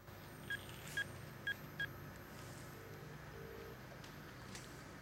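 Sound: phone dialing tones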